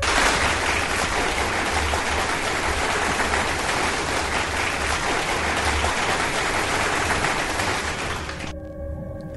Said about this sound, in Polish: poznaliście poprawnie większość głosów, co tylko utwierdza mnie w przekonaniu, że Radio Paranormalium to był trafiony projekt, że Radio Paranormalium ma naprawdę bardzo zaciętych i bardzo wiernych słuchaczy i dla was wszystkich właśnie teraz oklaski.